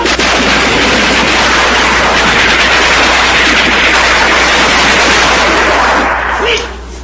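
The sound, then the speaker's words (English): A dense barrage of gunshots as soldiers burst through a door and storm a room, roaring for about six seconds, loud and nearly continuous, with muffled voices mixed into the chaos before it cuts off abruptly; a professor is shot dead. “The professor lies dead on the floor, shot through the eye.”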